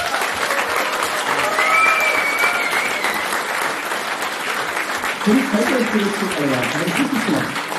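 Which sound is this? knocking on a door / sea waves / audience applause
audience applause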